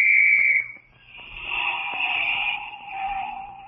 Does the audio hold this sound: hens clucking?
no